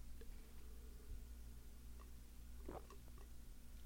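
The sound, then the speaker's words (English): A single soft, brief slurping sip of a beverage near the end of a quiet stretch, over a low steady hum, with faint small mouth ticks around it. “And I am all, pardon me, taking a sip of beverage, am all for longer weekends.”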